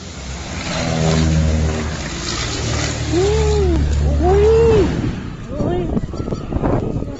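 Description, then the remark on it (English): A small plane's engine drones steadily, then whines up and down in pitch before sudden loud crashing bursts and rattling impacts cut through near the end. “But this, you hear the sound of the plane and the actual crash.”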